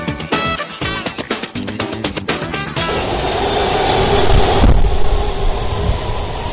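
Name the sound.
subway train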